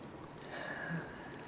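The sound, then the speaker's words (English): Hot tub water bubbling and churning in a steady, low hiss, a continuous wash of fine bubbles with no distinct pops standing out and no voices. “And the way the bubbles pop against our skin.”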